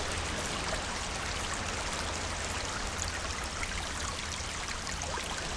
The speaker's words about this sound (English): The sea is in the same place on the other side of the wall. It's further away, but listen, nice little trickle.